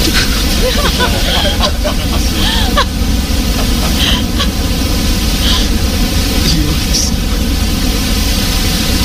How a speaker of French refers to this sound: Alors, par exemple, j'ai créé pour vous, en deux clics, un bruit brun. C'est un bruit qui ressemble un peu à des vagues. Il est plus grave que le bruit blanc et on l'utilise généralement pour endormir les bébés. Voici mon bruit brun.